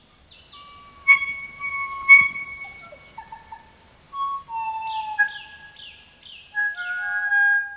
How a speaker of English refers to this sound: Track 2, Blue-Wattled Crow, Kōkako.